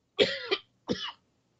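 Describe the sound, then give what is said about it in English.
Two coughs from a single person, fairly loud, the first with a quick double burst and the second shorter, followed by silence. “Just a cough.”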